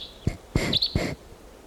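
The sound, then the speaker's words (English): Three sharp, emphatic calls from wild crossbills around the perimeter of a small gulch, bright metallic chips spaced irregularly and clear, with no voices present. “Crossbills, several wild birds around the perimeter of this little gulch calling.”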